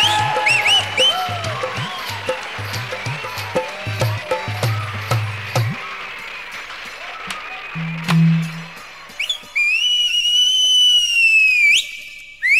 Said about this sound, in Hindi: ये सीटी क्यों मार रहा है? सीटी करा दूंगा तेरी पीटी।